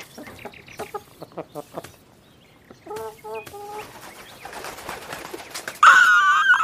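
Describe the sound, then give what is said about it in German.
A chicken eyes a grass tuft and scratches and pecks at it, with short rustling scrapes and soft murmuring clucks, ending in a sudden loud, harsh squawk. “Sie beäugt ein vielversprechendes Grasbüschel und fängt an zu scharren.”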